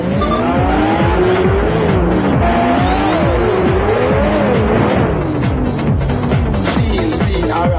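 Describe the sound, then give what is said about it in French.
Loud, continuous racing car engines from a realistic racing simulation video game, with rising and falling revs from several vehicles, joined by sharp tire squeals, like a busy race in full swing with no talking. “Les courses sont difficiles et très réalistes, il s'agit d'une vraie simulation qui devrait passionner tous les pilotes en herbe”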